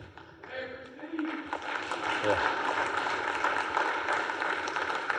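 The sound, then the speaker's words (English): Audience applause at a recognition of employees for 20 years of service rises after a brief moment and continues as a steady, dense wash of many hands clapping. A voice speaks briefly over it at the start. “You can clap individually for these because, like I said, this is 20 years.”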